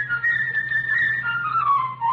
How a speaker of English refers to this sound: And this tale is going to be told by a cast of musical instruments, a different instrument impersonating a different character. The bird will be played by a flute.